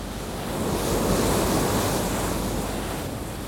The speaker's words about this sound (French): Les 8500 chevaux du navire sont tout juste suffisants pour étaler la tempête, c'est-à-dire la laisser passer en attendant la calme.